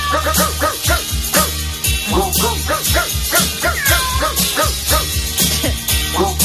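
A song version made from animal sounds: dog barks and yips arranged into a tune, the pitched barks following a melody in steady rhythm over a backing beat, loud throughout.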